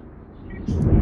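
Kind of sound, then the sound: nature, thunder rumbling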